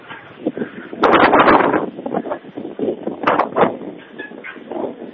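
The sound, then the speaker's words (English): Strong wind buffets the microphone high up on a bell tower in loud, uneven rumbling gusts, surging hardest early on and then pulsing irregularly, with no voices heard. “It's very windy here.”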